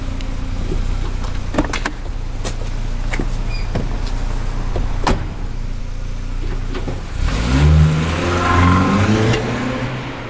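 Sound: car driving off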